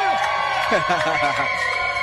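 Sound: crowd cheering and whooping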